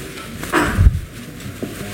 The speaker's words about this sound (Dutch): Dat is de hamer. Dan open ik hierbij de vergadering.